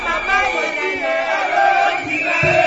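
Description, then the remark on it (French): A large crowd cheers, sings and dances joyfully on the forecourt of the Ministry of Civil Service in Kinshasa during the signing of a historic decree, many voices blending into a loud, continuous wash of shouts and melodic chanting with no pauses. “Ces cris de joie, d'allégresse, chansons et pas de danse sont enregistrés sur les parvis du ministère de la fonction publique lors de la signature de cet arrêté historique.”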